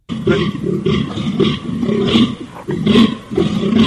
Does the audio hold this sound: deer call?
yes